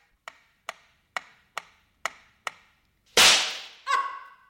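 Six evenly spaced sharp clicks tick by, then a loud, harsh gunshot cracks out at a shooting gallery, where the shooter aims to win a small saucepan as a prize, quickly followed by a short, bright metallic ring. The shot misses. No one speaks.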